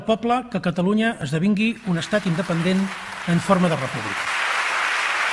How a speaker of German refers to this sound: Der Applaus der Separatisten im katalanischen Parlament war Puigdemont gewiss.